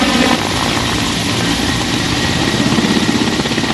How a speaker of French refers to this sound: Décollage de l'hélicoptère de l'armée irakienne.